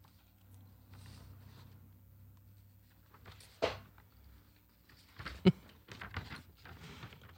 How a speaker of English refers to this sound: Rustling papers.